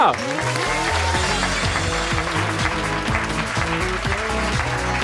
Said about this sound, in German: Und habt ihr noch ein bisschen Applaus übrig?